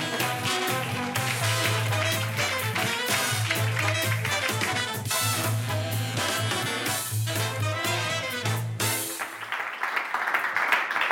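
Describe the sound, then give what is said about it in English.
A crowd applauds beneath loud, bass-heavy music; when the music cuts out near the end, steady clapping carries on alone for a couple of seconds. “Can we have a large round of applause”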